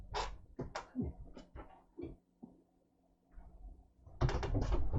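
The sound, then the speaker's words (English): A female cat named Ingomare cries insistently to be let in, in a string of short, harsh yowls with quieter pauses between them, then a louder, rough rattling burst near the end as the door is opened to let her in. “So I'm just gonna let the cat in because it's screaming and shouting.”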